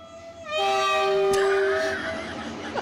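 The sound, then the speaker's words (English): A loud train horn sound effect in a radio drop for 'the Trubisky train' blares in one long sustained blast, bright, then gives way to a rushing, rumbling tail as it fades. No one speaks. “Woo-hoo! It's the Trubisky train.”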